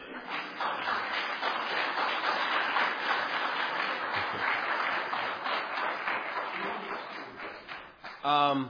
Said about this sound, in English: In a minute, let's clap again.